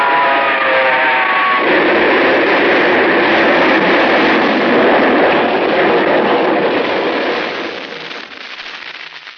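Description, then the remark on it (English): A train engine's whistle sounds a steady, multi-toned blast for the first second or so, blown to warn a man on the track a quarter of a mile ahead, then a loud, rushing roar of the engine passing takes over, dropping away near the end. “The light on the engine picked him up a quarter of a mile away, and I whistled.”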